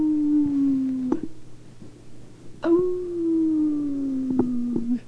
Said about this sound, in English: Well, let's see, Ross. Can you still do your howls?